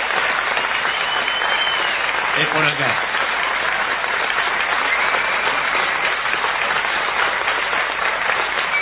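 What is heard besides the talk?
audience applause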